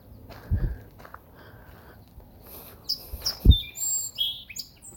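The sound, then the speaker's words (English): A song sparrow sings a quick series of bright, high chirps and trills in the second half, with a couple of low thumps like footsteps beneath and no talking. “Did you hear that song, Sparrow? Let's see if it'll sing for us again.”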